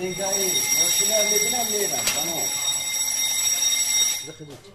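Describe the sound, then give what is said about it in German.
A steady, high-pitched electronic alarm tone from the security alarm system of an office building in Dushanbe, guarding seized drugs behind two sealed iron doors, rings continuously at moderate volume beneath a man's narrating voice, cutting off near the end. “Gesichert durch 2 versiegelte Eisentüren und eine Alarmanlage.”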